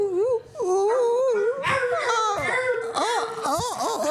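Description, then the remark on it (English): A dog whimpers and whines in a steady run of high, wavering, sing-song cries that rise and fall without pause for several seconds. “And thank the dog.”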